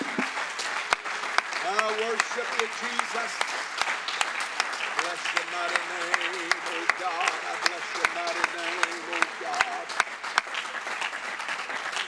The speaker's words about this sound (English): I'm going to ask you to give the Lord a hand clap of appreciation again before you're seated here this morning.